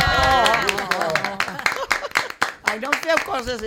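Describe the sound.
Several people clap in a quick, uneven patter of sharp slaps while voices talk and greet over it, the clapping thinning out toward the end.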